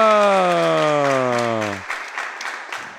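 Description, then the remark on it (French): A crowd applauds steadily during a radio broadcast, with dense overlapping claps throughout. For the first two seconds a loud, sliding tone falls in pitch above the clapping, then the applause continues alone and slightly softer. “Wouhouhouhouhou, le tonnerre d'applaudissements”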